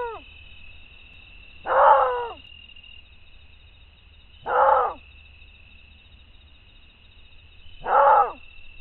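Maned wolf calls, recorded by biologist Renata Souza Lima of the Federal University of Rio Grande do Norte: three loud, hoarse barking roars spaced about three seconds apart, each short and harsh, over a steady high-pitched insect drone and low background rumble.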